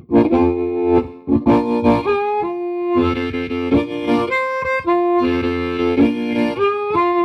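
A clean, loud electric guitar played through a 57 Twin amp model plays a bright melodic phrase alone, with strummed chords followed by sustained single notes that ring clearly.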